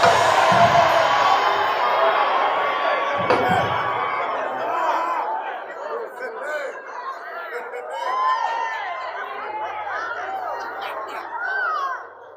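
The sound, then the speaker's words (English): A church audience shouts and cheers together in a dense, steady wash of overlapping voices, with high whoops and excited cries rising above the crowd for the whole stretch. “Y'all should shout, shout, y'all gotta shout.”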